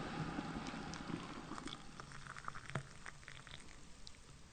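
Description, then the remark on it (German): A kettle boiling water for organic herbal tea, with a steady rushing hiss and scattered bubbly pops and crackles throughout. It's fairly quiet and continuous, with no voices. “Na dann, machen wir mal das Wasser an. Merkt das noch kocht”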